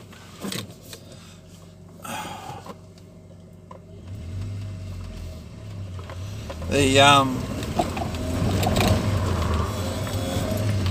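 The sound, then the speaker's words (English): A car engine rumbles and climbs as the car pulls away hard and its rear end slides out, turning it toward the oncoming traffic lane, with a short burst of tyre noise midway before the engine keeps droning louder. “The back end slid out as I was taking off. Then the car sort of started pointing into the lane of the oncoming traffic, you know.”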